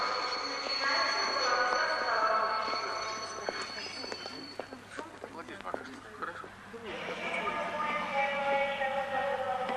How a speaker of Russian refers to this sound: Нумерация вагонов начинается с головы состава. Скорый поезд 47 из Москвы прибывает на первый путь.